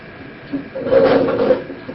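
A wooden chair is scraped and shifted across the floor as it is brought and moved into place for someone, in one short drag of about a second, with a faint rub before it and quiet around it.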